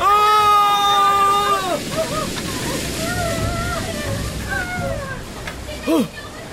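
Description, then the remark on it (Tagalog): A loud, continuous roar of rushing flood water surges throughout, with a big wave crashing through. Voices cry out and scream over the torrent, one sharp shout near the end. “Malaking alon! Malaking alon na papunta sa akin!”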